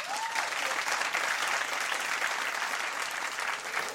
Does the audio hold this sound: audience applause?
yes